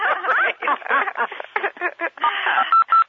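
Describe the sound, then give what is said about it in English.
Two short, steady telephone keypad beeps sound in quick succession at the end, from pressing star six to mute on a conference call, after a jumble of overlapping voices talking on the phone line. “All right, so it is out of presentation mode now, so go ahead and press *6.”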